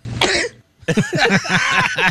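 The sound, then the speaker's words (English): A man's loud sneeze, played from a recording, that comes out rough and cough-like, a harsh burst followed by a brief pause and then a longer run of raspy, rhythmic expulsions. “That's his sneeze. Sounds like a cough.”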